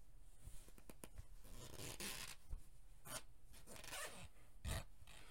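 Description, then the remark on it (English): A tight, strappy dress's zipper is drawn up by someone helping the wearer, in a few short, raspy pulls with brief ticking catches between them, fairly quiet, with no voices. “It is so much easier when I have someone help zip me up in this tight, strappy little thing.”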